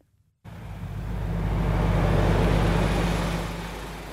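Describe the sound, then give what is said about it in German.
An empty bus drives from an empty airport terminal in the Hunsrück along empty roads past empty car parks toward Koblenz at dusk, with a steady low engine rumble and road noise that swells and holds, with no voices. “Ein leerer Bus fährt vom leeren Flughafenterminal über leere Straßen vorbei an leeren Parkplätzen Richtung Koblenz.”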